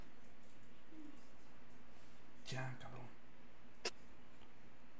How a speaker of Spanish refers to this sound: Callen al perro, por favor.